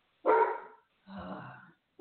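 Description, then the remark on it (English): Two loud, harsh barks from dogs, the first sharp and bright, the second lower and rougher, separated by a brief pause with no talking. “Why are you guys barking?”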